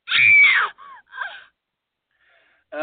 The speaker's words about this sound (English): No, this is how I make her scream, though.